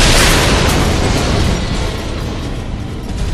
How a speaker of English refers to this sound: Over the clatter of blaster fire, Ryan heard the sound of a rocket approaching.